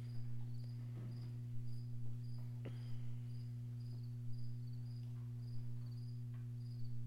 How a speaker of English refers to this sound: The crickets have something to say today. Like, geez, what is going on?